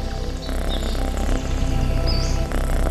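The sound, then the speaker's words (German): A cat lying in the sun purrs with a steady, deep rumbling purr that runs continuously, with faint bird chirps twittering high above it now and then. “Du schnurrst.”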